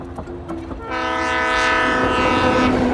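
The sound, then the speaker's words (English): A passenger train rumbles along the rails, with a low mechanical roar swelling up about a second in and holding steady, topped by a sustained tonal whine like a horn or wheel squeal. “This train has changed the lives of many people.”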